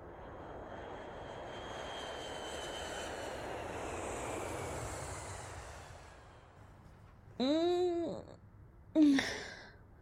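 airplane engine

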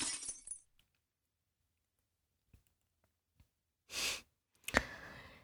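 glass breaking

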